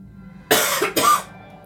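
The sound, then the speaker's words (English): Two quick coughs in a row, fairly loud and harsh, with nobody speaking and only a quiet background before and after. “It wasn't your turn to cough yet, though.”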